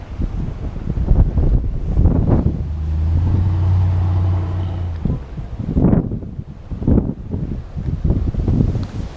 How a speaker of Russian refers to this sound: Гуляем, гуляем вдоль океана. Ветрено, хорошо. Ветер теплый.